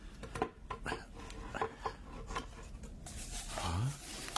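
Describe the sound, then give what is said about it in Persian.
A small box's lid is worked open: a run of scraping, rubbing and small knocks, ending in a short rising creak as the lid comes free. No voices. “حال میتوانی در جعبه را بکشایی؟”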